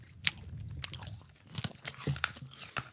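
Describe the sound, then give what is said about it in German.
Chewing and biting of soft, sugary candy close to the microphone: sticky, slightly crunchy mouth clicks and smacks arrive in an irregular rhythm, loud, with no talking. “gerne näher ins Mikrofon kauen.”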